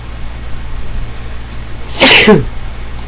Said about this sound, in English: Now I got to push my sneeze button. Hang on.